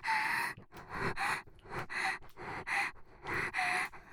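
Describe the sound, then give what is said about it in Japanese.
Breathy exhalations mixed with moans come in a steady run of about eight bursts, many carrying a soft voiced moan. They are fairly loud and rhythmic, with brief pauses between breaths and no speech. “私の喘ぎ声混じりの吐息、そんなに興奮しますの？”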